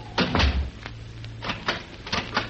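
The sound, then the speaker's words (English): A study door swings shut with a solid thud, followed by a series of sharp metallic clicks and rattles as its lock is turned, with a low steady hum beneath. “Is it quite necessary to have the door locked”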